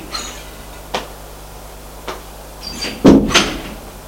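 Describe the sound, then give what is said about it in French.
An apartment door is opened and shut as a man leaves the apartment: a couple of soft latch clicks, then a louder thump and rattle as it closes near the end, with no voices. “Et il sort de l'appartement.”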